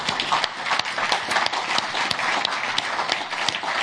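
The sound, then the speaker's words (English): A crowd applauds steadily, many hands clapping in a dense, sustained wash with sharp individual claps popping out, holding at an even level throughout with no voices. “So we just want to applaud you.”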